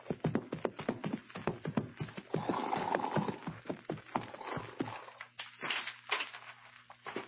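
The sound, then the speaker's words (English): Horses' hooves clop along in a quick, uneven rhythm, fairly loud, as Hoppy and the kid ride up to the door of Mort Robertson's ranch house on Clear Creek, then thin out to a few scattered steps as the riders come to a stop. “A few minutes after the meeting on the plane, that Hoppy and the kid ride up to the door of Mort Robertson's ranch house on Clear Creek.”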